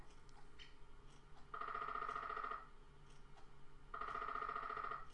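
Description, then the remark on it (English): A small, light clock made of sturdy plastic and powered by a AAA battery chimes imitating a woodpecker: two loud bursts of rapid, buzzy tapping at a steady mid-high pitch, each lasting about a second, separated by a short pause. No one speaks. “Yes, woodpecker o'clock.”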